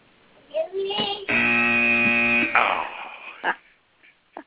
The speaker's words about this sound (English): There's your buzzer